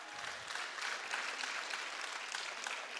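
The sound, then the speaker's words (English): An audience at an Easter church service claps steadily for several seconds because a man smiled, a dense, even patter of many hands with no voices rising above it. “People are clapping because you smiled.”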